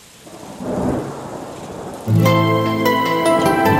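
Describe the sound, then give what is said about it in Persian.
Steady rain falls outside at night, hissing with a low rumble like thunder, then about halfway through music with sustained tones comes in loudly over the continuing downpour. “پنجره باز و بارون داره اون بیرون میباره، شب و با صدای بارون تو رو یاد من میاره”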